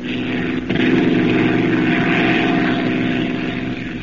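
A steady, loud propeller-engine drone fills the space as if heard from inside a plane's cabin, a constant throbbing hum with a slight surge near the start and no voices.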